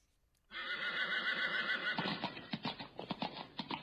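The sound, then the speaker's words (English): A horse lets out a loud, wavering neigh, then its hooves clip-clop in a quick, steady rhythm as it moves off, ordered to take Snidely Whiplash back to the fort, clear with no voices. “Horse, take this crooked culprit back to the fort!”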